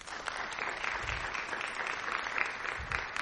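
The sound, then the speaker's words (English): Steady applause from an audience for the panelists at an ICANN meeting, a dense crackle of many hands clapping at an even, sustained level for several seconds with no voices over it. “Well, then we just need to thank everyone for having come, and then put a round of applause to our panelists who did well.”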